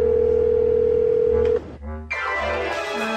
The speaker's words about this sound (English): So it's time to venture into uncharted territory by making an actual phone call.